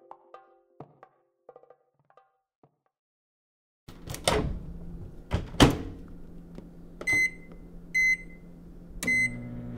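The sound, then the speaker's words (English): A microwave oven is handled: soft keypad clicks, a couple of loud door thunks, then several short electronic beeps over a low humming drone as it runs. “Just about every home kitchen has a microwave in it.”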